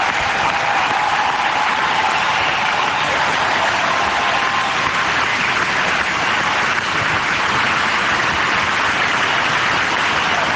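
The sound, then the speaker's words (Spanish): A crowd in a sports pavilion applauds Rafa Nadal continuously after a tribute to his tennis career, a dense, steady roar of clapping that stays loud and unbroken throughout, with no voices rising above it. “La gente no para de aplaudir.”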